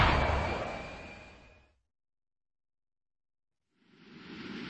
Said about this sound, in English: Then he was cutting across the destroyer's axis, laser cannons spitting high-energy beams.